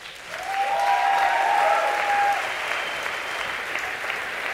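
A crowd applauds steadily for several seconds, a dense wash of clapping that swells and then eases slightly, with a faint whistle or cheer ringing out near the start.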